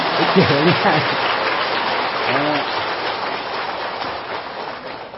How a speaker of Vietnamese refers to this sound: Thì trong kinh Đức Phật nói cái gì cũng là cái duyên của mình, thì bây giờ mình cũng vui cái duyên của mình một tràng pháo tay nha.